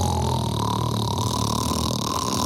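A loud, steady, rasping snore on a beach, with a deep rattling drone that holds for a couple of seconds without pausing. No one is talking.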